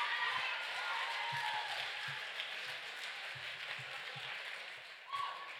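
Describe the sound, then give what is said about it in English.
A steady wash of audience applause, dense and crackling, holding at an even level throughout with a few low thumps beneath it and a brief swell near the end. “Guys, did you hear the applause that just happened?”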